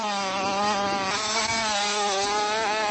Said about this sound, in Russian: Это тренировочный заезд перед стартом самых юных мотогонщиков. Надо освоить и почувствовать трассу, проверить трамплины и пройти повороты.